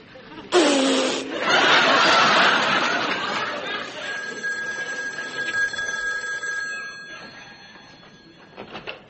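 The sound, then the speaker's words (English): The Good Humor man's bell rings out loudly with a sharp, clanging start, then its bright metallic tone lingers and slowly fades over several seconds, sounding much like a telephone bell. “Was that the phone?”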